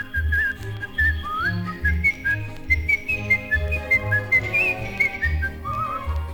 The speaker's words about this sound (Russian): Я эту песенку могу не только вам напеть, но если нужно просвистеть негромко.